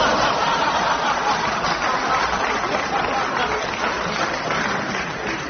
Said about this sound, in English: Compton, too, joined in the applause for this old Jimmy Wheeler joke.